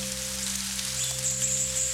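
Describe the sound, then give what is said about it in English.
Steady, soft rainfall patters continuously across the whole stretch in a tropical rainforest, a gentle hiss of drops on the leaves of trees, with a low sustained hum droning underneath and no voices. “As you become aware of the rain falling about you,”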